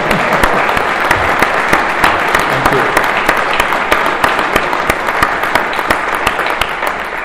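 Sustained audience applause for a $7.2 million grant, a dense, steady wash of many hands clapping at once, with sharp individual claps popping out. It stays loud and even for about seven seconds before easing slightly at the end.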